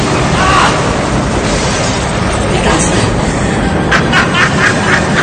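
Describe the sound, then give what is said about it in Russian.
A comet crash explosion effect: a dense, roaring blast of noise with deep rumbling that holds loud for several seconds, then a few sharp crackling bursts near the end. “Маэстро, маэстро, будьте добры, повторите момент с кометой, но только за моим окном, будьте добры!”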